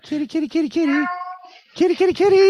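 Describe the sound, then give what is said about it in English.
A male cat meows repeatedly: a quick run of short, insistent meows, one drawn-out wail, a brief pause, then several more loud meows. “You have a cat.”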